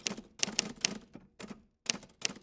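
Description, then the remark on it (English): Typewriter keys clack in quick, uneven bursts as girls type in their room. Each strike is a sharp, bright click, with brief pauses between runs of typing. No voices are heard. “Now, the only noises that were coming from the girls' room were the click-clacking of their typewriter keys.”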